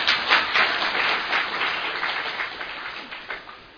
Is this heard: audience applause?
yes